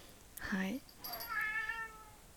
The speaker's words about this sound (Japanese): すいません、猫がね、うるさいね。